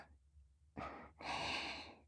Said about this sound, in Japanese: 先生、息遣いが荒いですよ。